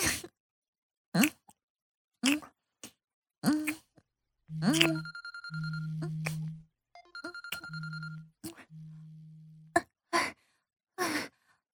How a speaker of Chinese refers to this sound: 谁啊？这么晚还来电话？老公，我等一下，我先接电话。等一下，还有电话。